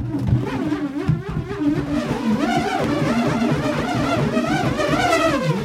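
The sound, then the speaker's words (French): Continuous insect wing buzzing, a fly, a mosquito and a bumblebee, with wavering harmonic drones that shift in pitch, fairly loud, and no voices. The note comes from how fast the wings beat: the large bumblebee beats its wings slowly, giving a low tone, while the fly beats faster. “Ah oui, on entend la mouche, le moustique et le bourdon.”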